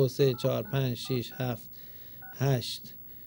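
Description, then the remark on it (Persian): A few short telephone keypad beeps, buttons pressed to enter a 16-digit credit card number on a phone, come in brief separate blips between bursts of a person talking. “برای افراد بالای 18 سال میگه برای افراد بالای 18 سال از شماره تلفن کریدیت کارتتون شروع میکنید به وارد کردن.”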